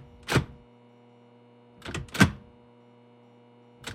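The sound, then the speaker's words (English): Someone tries a locked door: a dull thunk, then a pause, then two quick rattling clunks as the handle is jiggled, with another knock at the end over a low steady hum. “Locked.”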